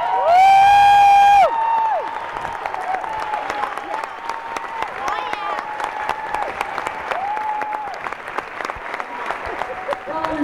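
An audience at a marching band's show applauds steadily with dense, continuous clapping, opening with a loud, shrill sustained whistle and followed by scattered cheers and whoops riding over the applause.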